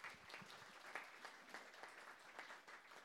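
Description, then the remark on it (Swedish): Warm audience applause for a panel guest on stage at a Katalys event, a dense, steady patter of many hands clapping at moderate loudness without any voices over it. “En varm applåd för henne.”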